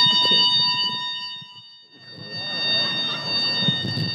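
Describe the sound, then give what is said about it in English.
An emergency fire alarm bell rings steadily throughout, a continuous high-pitched electronic tone, with a crowd of voices murmuring and talking beneath it. “Yeah, and you can hear the bell ringing, so hopefully we have to make our way out.”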